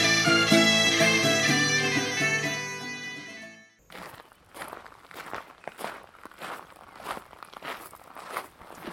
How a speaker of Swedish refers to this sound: Oj, vad det knastrar här på gången och det kvittrar fåglar i träden.